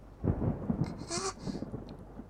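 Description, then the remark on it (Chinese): Steady rain pours down in a continuous wash of noise with a low, rumbling undertone, briefly swelling into a brighter hiss midway through, with no thunder. No voices are heard. “下雨天都怕。即便是雷雨，可现在也没有雷啊，你怕什么啊，小弟弟。”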